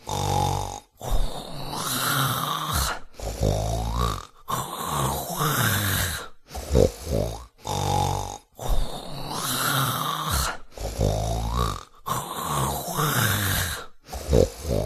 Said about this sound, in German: Und er legte sich auf die Seite und schnarchte sein Stückchen weiter.